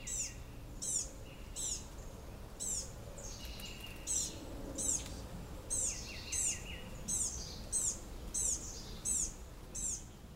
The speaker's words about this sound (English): That soft calling involves a family of blue-gray gnatcatchers, one size up from a hummer.